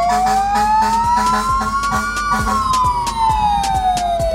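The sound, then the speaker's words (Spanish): A fire truck siren wails loud, its tone rising slowly then falling as it passes in a parade of decorated fire trucks carrying Santa Claus, over a busy backdrop of rumbling engines and crowd noise. “Mira, ahí van los bomberos, el viejo Pascuero.”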